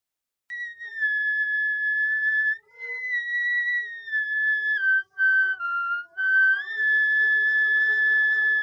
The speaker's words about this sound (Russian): По сути, свист в флейту.